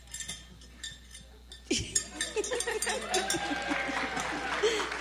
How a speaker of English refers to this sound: Ring your bell. A little louder. Ring it a little louder. Ring it again. Ring it loud. Loud and proud.